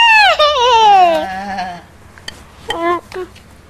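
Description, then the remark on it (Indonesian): A child's voice imitates a goat saying "mbe", letting out a long wavering bleat followed by a shorter, quieter second bleat after a brief pause, clear. “Mbe itu apa sih? Mbe itu apa? Binatang apa? Binatang. Kam? Kambing.”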